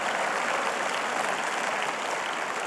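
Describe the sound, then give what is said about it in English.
An audience at James River church claps their hands together in a steady, dense wash of applause at a constant level for a few seconds, with no voices standing out. “Come on, if that's you, clap your hands, make a little bit of noise today, build your faith.”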